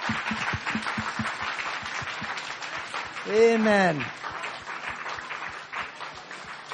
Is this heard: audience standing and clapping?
yes